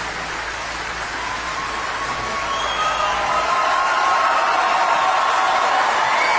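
A large audience cheers in a steady, dense roar, with high whoops and whistles rising above it. The noise swells slightly and stays loud throughout, and no one speaks clearly.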